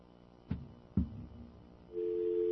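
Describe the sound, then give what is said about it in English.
Two muffled clicks, like a handset being lifted and a button pressed, then a steady, droning telephone dial tone starts up and holds clearly until the end. “That's dial tone.”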